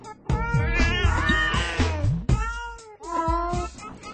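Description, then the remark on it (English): Several unhappy cats meow and yowl loudly in overlapping, drawn-out wails, their cries rising and falling with only brief pauses between them. “Those cats are not happy.”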